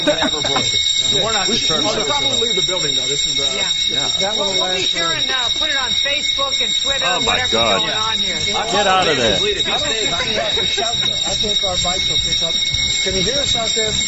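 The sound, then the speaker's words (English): A fire alarm blares with a steady, piercing high-pitched tone that runs unbroken the whole time, loud, while people talk over it. “Sitting there while the alarm's going off, trying to be heroes.”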